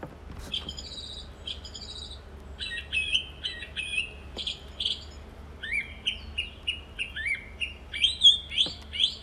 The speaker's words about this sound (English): It's either a thrush or a nightingale. Would you like to listen to it again? Yeah. It's a thrush.